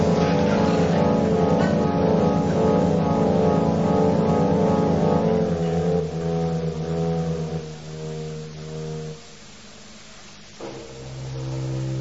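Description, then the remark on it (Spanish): A car engine drones loudly and steadily, then its hum drops and falters in stages as it drives into swamp water, ending in a quieter, muffled rumble. “Caramba, metí el auto en el pantano y me olvidé de salir.”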